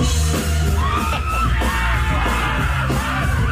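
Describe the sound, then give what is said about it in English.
A packed, noisy pub crowd yelling and whooping over a band playing loud live music, a steady wall of shouting voices that stays intense throughout with no break. “To hear the audio from the band. Because everybody's yelling.”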